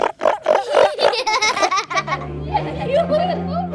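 Neil, a 5-year-old young male elephant seal weighing 1,000 kilograms, vocalizes: a quick series of rhythmic, snorting grunts gives way to a long, low, throaty bellow with a wavering, rumbling tone, fairly loud throughout.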